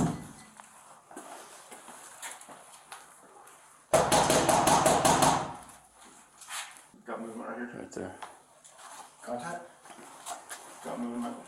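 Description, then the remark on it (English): A loud, rapid burst of police officers knocking on the door of a home, roughly a dozen hard raps in just over a second, with muffled voices talking before and after. “When officers knocked on the door,”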